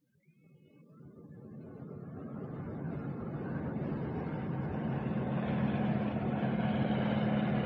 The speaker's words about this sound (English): Well, the only Russian helicopter I've ever seen was at the Paris Air Show. I think it's a Kamov 26.